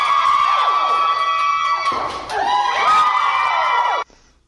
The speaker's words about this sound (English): Hold on, wait. They're cheering that loud on the first one? She hadn't even broken the record yet. That was the first one smashed between.